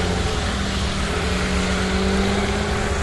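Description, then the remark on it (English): A car engine idles steadily as the car waits to get out of a driveway, a continuous low droning hum with a faint tonal whine, holding even for the whole stretch with no voices. “They just took me behind the car that was waiting to get out of the driveway there.”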